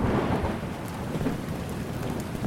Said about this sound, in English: Moments later, it started to rain.